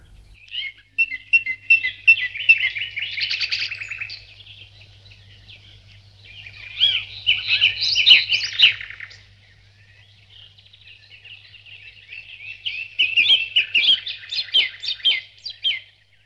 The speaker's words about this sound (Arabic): العصافير تغرد على الأشجار.